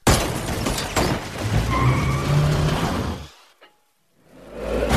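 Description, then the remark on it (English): A car roars and skids, then crashes loudly into water with a broad, churning splash. The noise cuts to near silence for about a second before a low rumbling wash returns. “Car splash.”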